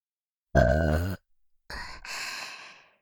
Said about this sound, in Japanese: 感謝の気持ちをゲップにして、たくさん伝えちゃいます。